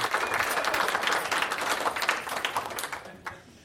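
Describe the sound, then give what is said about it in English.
A crowd applauds with dense, steady clapping that holds strong for a few seconds before tapering off toward the end. No one speaks over it. “Clap your hands.”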